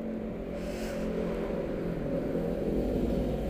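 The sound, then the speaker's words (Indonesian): A steady, low engine drone from many motorbikes passing by a house hums continuously, its buzzing tone swelling slightly louder toward the end as the bikes pass, with no voices present. “motor, anjir gua risih banget banyak motor rumah gua anjing.”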